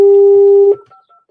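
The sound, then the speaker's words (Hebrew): Telephone keypad dialing tones as a number is dialed during a radio broadcast: one loud, steady electronic beep held for most of a second, then a few fainter, shorter tones trailing off. No one speaks. “אולי טעיתי במספר, בוא נראה.”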